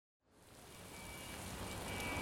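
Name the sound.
rain falling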